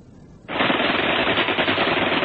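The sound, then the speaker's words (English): After a brief quiet moment, loud, dense gunfire erupts abruptly: rapid machine-gun bursts blur with rifle shots into a continuous crackling roar that holds steady to the end, with no voices. British defenders fire rifles and machine guns from above onto German SS troopers packed in a pass. “Rifle and machine gun fire rained on them from above and to their front.”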